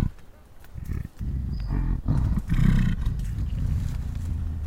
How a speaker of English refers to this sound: This one is called a belch vocalization. She labeled this, I believe, as well, and it's an expression of well-being. Belch vocalization.